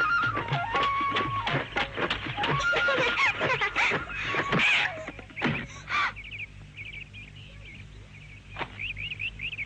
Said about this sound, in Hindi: अरे ये तो तोता है।